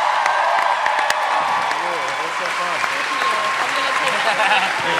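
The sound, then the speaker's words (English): Loud, sustained applause from a large audience for Maisie Williams, a dense wash of clapping with scattered cheers and voices mixed in throughout. “Please join me in giving a huge round of applause to Maisie Williams, who crushed it.”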